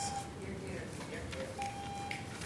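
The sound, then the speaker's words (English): An electronic speaking-time timer alarm at a public meeting sounds in a couple of steady, high beeping tones, a bit like an odd phone ring, over noisy background with indistinct murmuring voices. “Oh, is my time? Yeah. I thought someone has the weirdest phone ring. Yeah, it's definitely designed to be annoying.”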